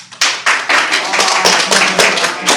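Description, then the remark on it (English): An audience breaks into steady applause to vote for a review of the horror film The Conjuring, many hands clapping at once in a dense, loud, crackling wash that holds for a couple of seconds, with no one speaking. “So if you would like to see The Conjuring, clap now.”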